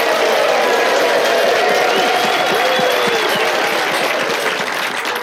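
audience applause and cheering

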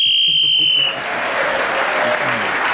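game show whistle

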